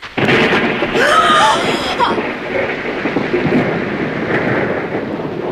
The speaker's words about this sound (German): Da hast du schon die Antwort. Nur ein Gewitter, kein Grund zur Panik.